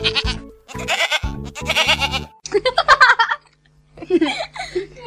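A goat bleats several times in quick, wavering bursts, loud, then pauses briefly before a final shorter bleat.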